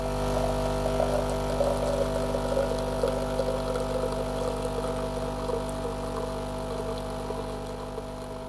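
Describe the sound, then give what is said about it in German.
A coffee machine runs with a steady, droning mechanical hum and a faint gurgling rattle on top, holding an even level for the full length with no voices. “Die Kaffeemaschine läuft schon.”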